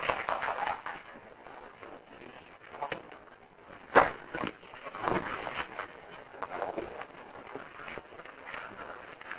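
Audience applause welcoming a pastor to speak: steady, dense crackle of many hands clapping at once, moderately loud, with a few sharper claps standing out. The clapping continues evenly throughout, with no speech.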